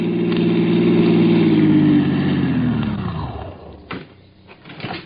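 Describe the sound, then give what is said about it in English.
A car engine rumbles steadily, then its low drone winds down in pitch and cuts off as the car parks in the driveway of the Whitfield farm, in the shade of a chestnut tree, followed by a few faint clunks and rustles. “I parked my car in the driveway of the Whitfield farm in the shade of what must have been the original spreading chestnut tree, started to walk up to the house.”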